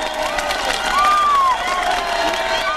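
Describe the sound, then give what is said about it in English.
About 120,000 East German protesters demonstrating against their government in Leipzig on October 16th shout "We are the people!" together in a dense, continuous roar, many voices blending and rising slightly in the middle, outdoors. “Crowds of East Germans are yelling, "We are the people!"”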